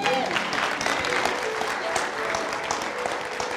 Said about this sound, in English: Can you give him a hand clap of praise?